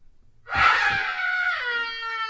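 people screaming

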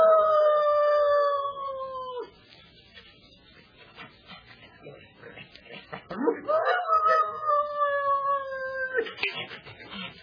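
dog howling

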